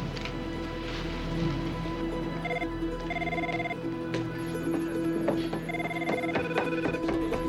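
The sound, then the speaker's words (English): Repeated electronic ringback tones on a phone line, sounding in short bursts with gaps between them, over a steady hiss like rain in the background. “Sure, I'll call Chappelle for you. Use your phone? Please do.”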